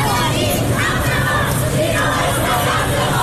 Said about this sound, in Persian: همزمان در جنوب ایران، بندرعباس، فریادهای دخترانی که میگویند ژینا نام رمز آنان است.